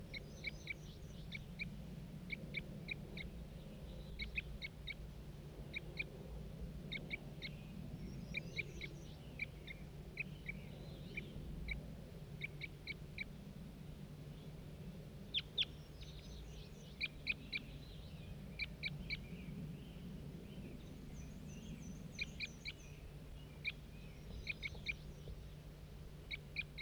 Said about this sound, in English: Start recording that same wild bird.